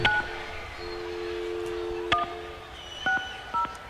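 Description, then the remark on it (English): Touch-tone phone dialing to call someone and make them a contest winner: a steady dial tone hums, then a few short, crisp keypad beeps sound in an uneven sequence, clear, with no one talking. “We're going to make the call right now”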